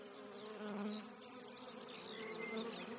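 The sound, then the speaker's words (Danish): A steady drone of bees buzzing as they fly from flower to flower, several insects humming continuously at moderate volume with slight swells, no voices present. “Som summen, siger de små bier, mens de flyver fra blomst til blomst.”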